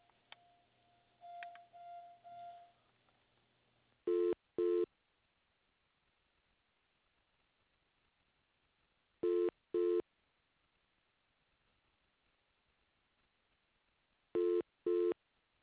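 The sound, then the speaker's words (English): A telephone line tone sounds in short double pulses, three pairs spaced about five seconds apart, loud and thin like a phone earpiece, with a faint humming tone before the first pair. “I need help. I'm on the phone.”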